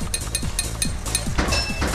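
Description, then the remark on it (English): A hammer in a video game strikes repeatedly in a quick, steady rhythm, about eight sharp blows with a faint metallic ring after each, and no voices. “Yeah, my hammer hitting accuracy and my concentration and just everything.”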